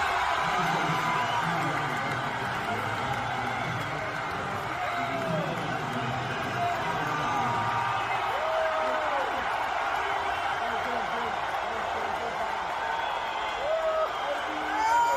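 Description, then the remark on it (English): A huge stadium crowd roars continuously as Donald Trump walks onto the field, a dense wash of cheering and shouting with some booing, scattered whoops and sharp whistles rising above it, the din staying loud and steady throughout. “Here is Donald Trump walking onto the field, and you definitely hear more cheering here.”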